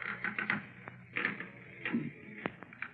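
Bed springs and wooden frame creak as someone gets out of bed, a series of short, uneven squeaks and strained groans with a few sharp clicks between them, moderately loud and with no talking.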